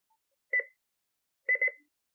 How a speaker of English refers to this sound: When you hear two quick beeps, you will know that scrolling has started.